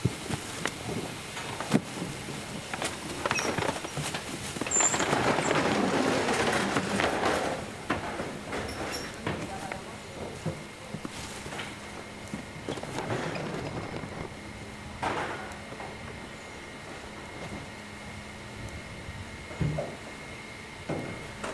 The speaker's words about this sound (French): le tracteur qui, c'est moi qui prépare le sol pour la plantation.